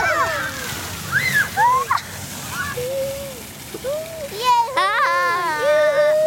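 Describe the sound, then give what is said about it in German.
Fountain jets of water, just switched on with a button, splash and spray in a steady wash while excited children squeal and call out, their high voices rising over the water. “Jetzt spritzen die Fontäne.”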